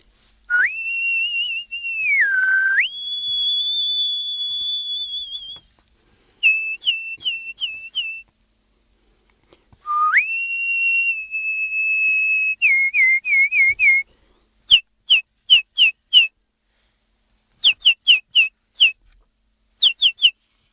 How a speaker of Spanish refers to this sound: Pues yo creo que como ejemplo vamos a escuchar a los pájaros, a lo que piensan y cómo cantan los pájaros.